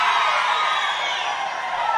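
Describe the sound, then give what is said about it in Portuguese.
A large crowd of Cruzeiro football fans shouting and cheering together, a dense, loud roar of many voices that holds steady throughout without pause. “Eu quero ouvir bem alto, cadê os cruzeirenses?”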